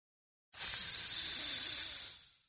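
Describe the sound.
A sizzle sound effect marking a verbal burn: a bright, sizzling hiss cuts in abruptly, holds steady and loud for about two seconds, then fades away, like something searing on a hot surface. No voices.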